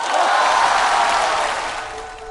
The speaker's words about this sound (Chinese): 希望他今天能给大家带来欢乐就好了。掌声有请德云社岳云鹏。